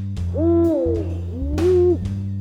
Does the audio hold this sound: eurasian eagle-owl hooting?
yes